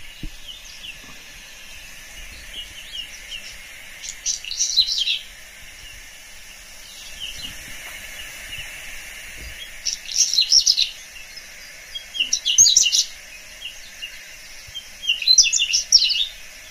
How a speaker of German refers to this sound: Und jetzt lasse ich mal das Braunkehlchen singen. Das haben wir noch nicht gemacht, ja. Das würde ich gerne allen nicht vorenthalten. Es ist nämlich wirklich, finde ich, ein sehr schöner Gesang.